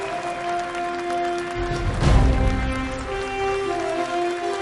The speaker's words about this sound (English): So please welcome to the stage, with a little more applause, the Commissioner of the National Football League, Mr. Roger Goodell.